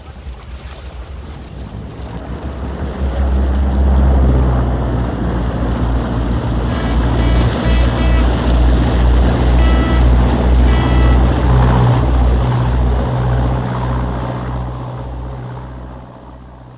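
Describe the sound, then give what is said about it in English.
A boat engine drones steadily as the vessel moves through water, with sloshing waves and splashes around the hull, swelling louder in the middle and easing off toward the end. No one speaks. “Down the ladder, into the boat, if you please.”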